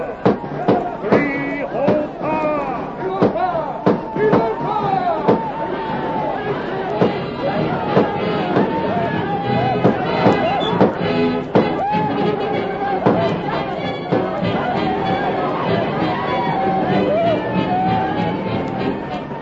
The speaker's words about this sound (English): The outlaws thundered down upon the village, their guns blazing. The Indians, confused by the sudden uproar, tumbled forth from their tents in bewildered alarm.